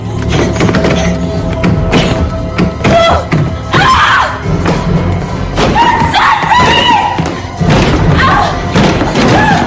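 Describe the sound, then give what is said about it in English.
Heavy, booming thuds of a bathroom door slamming strike again and again over a loud, dense wash of tense sound, with occasional strained voices cutting through. “The bathroom door slams.”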